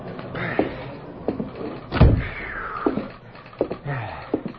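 Heavy footsteps stomp across the hollow wooden floor of a side-tracked freight car that serves as a telegram office. About half a dozen thuds come in an uneven rhythm, with one louder bang in the middle and no talking.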